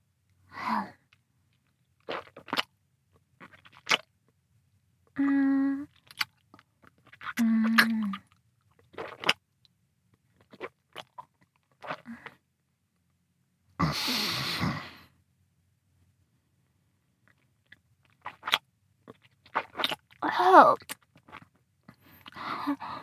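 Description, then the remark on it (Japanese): Wet chewing of rice to make mouth-chewed sake (kuchikamizake), with intermittent mouth clicks and smacks, a few short hummed vocal sounds, and a loud sneeze about midway through. “では気を取り直して、口噛み酒を作りましょうか。”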